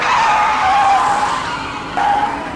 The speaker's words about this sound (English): Flying around curves, the renegade driver refuses to ease off the gas. When this road warrior hits the highway, he pushes his car even faster. Without an ounce of caution, he bombs through the gaps in traffic.